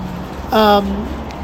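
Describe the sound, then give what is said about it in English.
A steady wash of road traffic noise with a low rumble fills the background of a bus stop, while a voice briefly speaks over it in the middle. “You can hear background traffic because, like I said, we're at the bus stop, but that's what Audio Mo is about, isn't it?”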